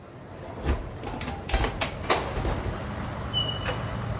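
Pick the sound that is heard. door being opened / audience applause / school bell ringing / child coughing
door being opened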